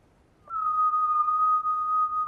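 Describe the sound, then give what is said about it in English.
A whistle blown tentatively as one long, steady note after a brief moment of quiet, holding an even pitch at a moderate level until the end with no one speaking. “the best way to find out is evidently to whistle for him.”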